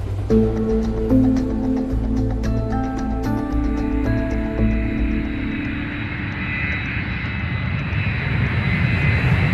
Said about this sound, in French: Voilà, le tarmac de l'aéroport, juste là devant nous, alors qu'un avion de United décolle, avion pour les États-Unis, devant un EasyJet d'ailleurs,